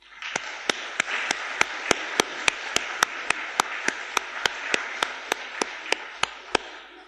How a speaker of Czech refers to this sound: Já myslím, že se to dětem opravdu letos zase povedlo, jako vždycky, a že bychom jim mohli zatleskat, co říkáte?